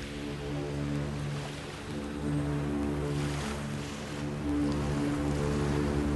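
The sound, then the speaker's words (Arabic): A deep ship horn from a ship on the sea drones steadily for several seconds, a loud, sustained low tone over a wash of ocean surf and wind, under a clear sky. “أنصتوا وراقبوا هذه السفينة. من أين يأتي هذا الصوت يا أمي؟ إنه آت من السفينة.”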